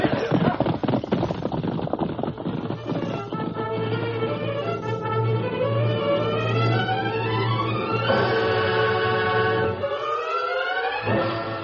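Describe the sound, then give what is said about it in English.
Rapid, rumbling hoofbeats of the Lone Ranger's horse galloping at top speed by moonlight toward a cave camp, most distinct in the first few seconds, under loud dramatic music with swooping, siren-like rising and falling tones and a heavy low drone. “Bob Willis and Tonto heard the thunder of approaching hoofbeats.”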